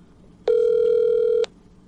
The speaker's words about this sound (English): Before we do that, I'm going to make a phone call very quickly.